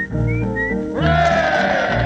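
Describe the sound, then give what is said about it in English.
A person imitates the song of the nightingale, a well-known British bird, whistling high sustained notes that lift into a bright, rising sweep and then hold a dense, buzzy warble, loud and without talk. “And the next will be, take your time one moment, the nightingale.”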